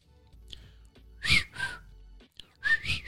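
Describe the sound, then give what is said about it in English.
A person whistles the tune from the film The Breakfast Club, a short melody of two pairs of clear notes separated by a brief pause, over a faint low background hum. “Breakfast Club whistle.”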